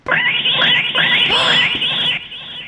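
A cat lets out a loud, sustained screech, its harsh wailing pitch rising and bending in waves for about two seconds before trailing off into quieter noise.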